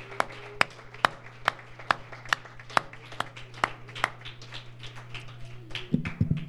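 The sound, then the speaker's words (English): An audience gives the Lord a hand clap of praise, clapping in a steady, even rhythm, sharp crisp claps about twice a second, over a low steady hum, fading out into a brief murmur of sound at the end. “I think we ought to give the Lord a hand clap of praise tonight.”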